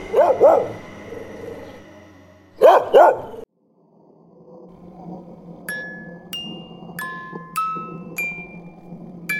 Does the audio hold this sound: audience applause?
no